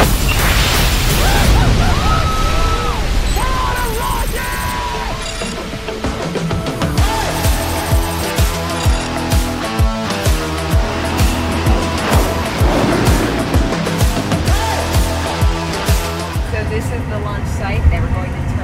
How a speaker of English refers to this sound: Flight Vector, New Shepard is go for launch. T-minus 5, 4, command is start, T-1.